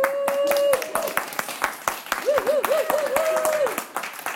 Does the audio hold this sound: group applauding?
yes